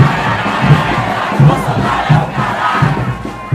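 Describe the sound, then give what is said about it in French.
A large carnival crowd in a street in Brazil chants a protest refrain against the Brazilian president in unison, loud and rhythmic, with regular punchy beats about every 0.7 seconds driving the chant forward amid a dense roar of voices. “Au détour d'une rue, la foule reprend un refrain contre le président brésilien.”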